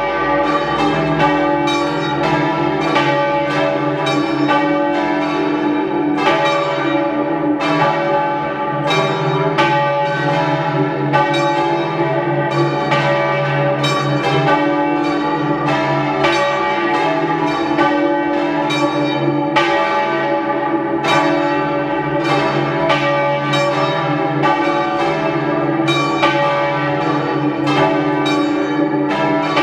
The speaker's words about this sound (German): Es ist 12 Uhr. Sie hören die Glocken der Pfarrkirche Maria Himmelfahrt in Sarntein in Südtirol.